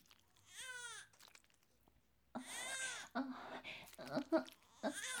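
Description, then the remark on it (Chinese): A baby, said to seem hungry, cries in short, wavering wails: one brief cry, a pause, then louder, more sustained crying that continues in uneven bursts. “哎呀，你等一下，宝宝好像饿了呢，我要先给他喂奶。”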